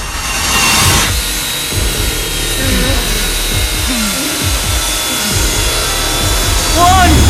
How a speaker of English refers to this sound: Malik's looking down at the spinning saw in the box.